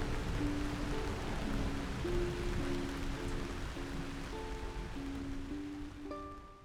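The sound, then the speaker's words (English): Steady rain patters on a roof in a dense, even wash of noise, with a soft, gentle melody of sustained tones playing underneath; no voices. “A shower helps get the tension out of your shoulders, and the rain falling on your roof helps lull you to sleep.”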